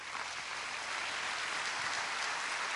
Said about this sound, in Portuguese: Vamos poder dar um forte aplauso ao Senhor por isso.